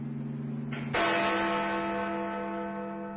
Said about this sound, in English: He spoke before the hour bell sounded, which it now did with a deep, hollow, melancholy 1.